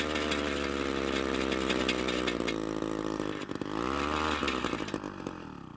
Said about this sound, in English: Nearly 200,000 gallons of aircraft fuel, known as JP-8, has been spilled at McMurdo Station over the years. Research teams are now drilling holes to evaluate the extent of soil contamination.